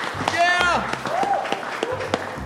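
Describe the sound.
An audience applauds, irregular claps crackling steadily for a couple of seconds, with voices cheering and calling out over the clapping.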